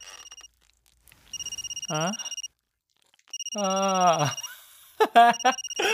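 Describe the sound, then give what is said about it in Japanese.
A smartphone rings with an incoming call from the family home, its electronic tone pulsing in repeated bursts at moderate volume, while people's voices break in over the ringing. “実家だってよ。出なくていいわけ？”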